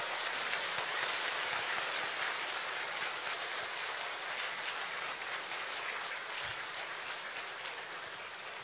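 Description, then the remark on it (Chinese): A large crowd claps warmly in a dense, steady wash of applause, thanking Lu Junhong for his compassionate Buddhist teaching; it holds evenly for several seconds and eases slightly toward the end, with no voices heard. “让我们再次以热烈的掌声感恩卢军宏台长的慈悲开示。”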